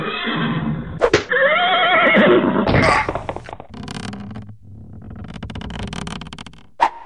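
A horse whinnies loudly and shrilly for a couple of seconds, then snorts and shuffles with a few sharp thumps, with no talking.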